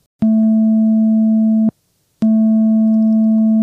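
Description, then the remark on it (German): A steady, low-pitched pure sine tone from a synthesizer oscillator, a single tone with no overtones, plays twice, each note holding evenly for about a second and a half with a short silence between. It sounds smooth, hollow and plain. “Das liegt eben daran, dass eben keine Obertöne dabei sind, sondern wirklich nur ein einzelner Ton.”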